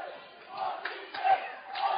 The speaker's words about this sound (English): And you can hear the on-to-state chant coming from the Spartan crowd.